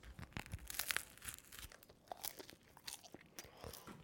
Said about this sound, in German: Warte mal, ich muss jetzt erstmal vom Brötchen abbeißen.